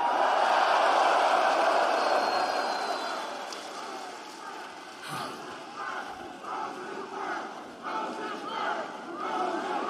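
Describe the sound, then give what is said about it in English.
A large arena crowd at AEW Dynamite wrestling in Rosenberg, Texas roars continuously, a loud wash of mixed cheers and boos that stays strong throughout, with scattered shouts and whistles rising above the din. “Wow, what a mixed crowd tonight.”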